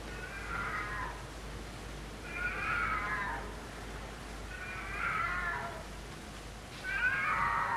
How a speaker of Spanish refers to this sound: El maullido de un gato la está fastidiando.